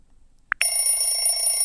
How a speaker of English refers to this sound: Temperature alarm presets beeps. Ding. Ring. School bell.